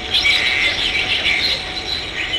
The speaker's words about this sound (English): Back in the control room, the sonar operators, the ones responsible for tracking targets on the surface and below, are intently staring at monitors and listening with earphones to the clicks and squeaks of dolphins.